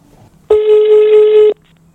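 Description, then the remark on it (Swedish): A single steady telephone ringing tone, a flat electronic beep lasting about a second, heard clearly on its own with a faint background before and after. “Ring du.”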